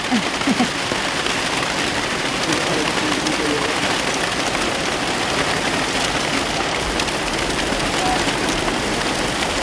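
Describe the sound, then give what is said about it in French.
Heavy tropical rain of huge drops, almost like hail, pours down in a steady, dense hiss for the whole stretch, with drips from small leaks falling and a brief murmur of voice near the start. “Ah, il y a des fuites. Des petites fuites.”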